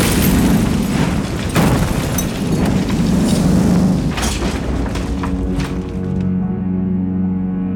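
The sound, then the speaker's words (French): A powerful car bomb blast, a Volkswagen packed with 100 kilos of explosives set off by remote control, roars as a deep rumbling boom laced with sharp bursts and crackling debris, resounding for hundreds of metres around, then slowly dies away into a low, droning rumble. “Une immense explosion retentit à des centaines de mètres à la ronde.”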